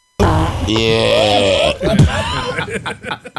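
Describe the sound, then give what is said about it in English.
A long, buzzy fart rumbles for over a second with a wavering pitch, then breaks into bursts of loud laughter. “You gotta find that fart though.”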